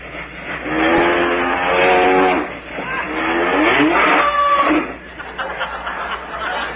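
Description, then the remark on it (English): A milk train rumbles past steadily for several seconds, with wavering, whistle-like tones rising and falling over the clatter. It is fairly loud throughout and eases off slightly near the end. “Sounds like the milk train, don't it?”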